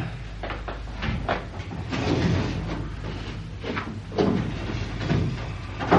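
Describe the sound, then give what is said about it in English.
A filing cabinet drawer slides open with a long, rumbling metallic scrape that surges a few times over several seconds, fairly loud, with no voices. “Do you mind moving your chair so I can get to my filing cabinet, Constable?”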